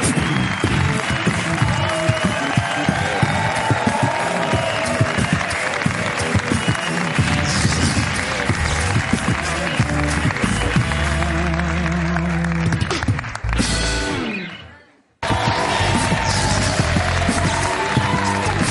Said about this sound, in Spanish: Un aplauso para Gonzalo.